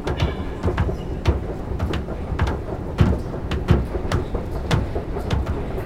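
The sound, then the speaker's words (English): Busy platform ambience at Châtelet metro station, on line 14: a steady low rumble of trains and machinery with scattered clanks and clicks, fairly loud and continuous, with no clear voices standing out. “Châtelet is one of the biggest stations in the city. And the metro, it's old and far from perfect.”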